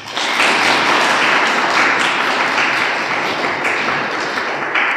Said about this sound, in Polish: Bardzo się cieszę z waszej obecności, ale bardziej się cieszę z obecności naszego dzisiejszego gościa, księdza Grzegorza Strzelczyka. Brawa dla niego.